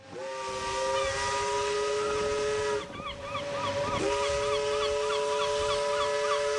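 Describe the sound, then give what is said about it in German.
A steamship whistle blasts loud and steady with hissing steam, breaking off briefly twice before sounding again, from a steamship sailing in 1935 from Antwerp via Madeira to Santos; no one speaks. “Mit dem Dampfschiff Astrida schipperte Riedel nicht von Hamburg, sondern von Antwerpen aus über Madeira nach Santos.”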